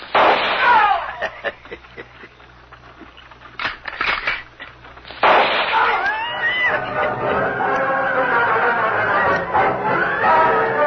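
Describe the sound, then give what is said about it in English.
Several sharp gunshots ring out at irregular intervals some distance ahead on a wagon trail, some echoing, followed by a louder burst and a stretch of agitated shouting and commotion. “Lone Ranger and Tonto were on the wagon trail when they heard the gunfire some distance ahead.”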